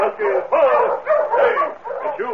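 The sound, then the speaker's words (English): A dog, King, yelps and whimpers excitedly in the snow in a series of short bursts, its high, strained cries coming in quick uneven pulses with barely a pause between them. “That dog is King.”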